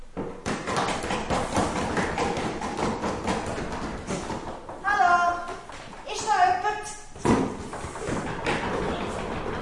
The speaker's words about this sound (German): Geradeaus, hat wirklich nicht mehr rumgeschaut, bis sie an einer Holzwand gekommen ist. Sie hat daran geklopft.